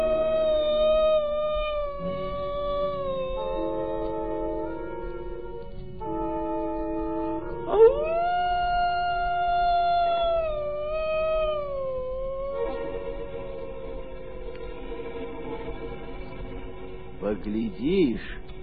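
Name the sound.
grey wolf howling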